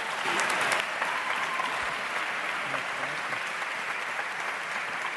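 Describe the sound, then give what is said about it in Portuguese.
An audience at a Parlamento dos Jovens session applauds steadily throughout, a dense, continuous patter of many hands clapping at fairly even loudness, with a few sharper claps standing out near the start and no voices. “Podem bater palmas neste momento, se quiser.”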